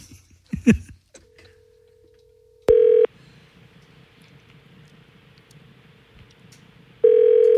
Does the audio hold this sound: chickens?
no